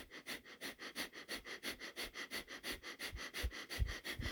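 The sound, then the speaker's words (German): Rapid, forceful breaths pumped through the nose in a steady rhythm during a guided breathing exercise, roughly four sharp sniffs per second, fairly loud with no talking. “Finde den Rhythmus, wo der Atem dich atmet, kraftvoll, freundlich.”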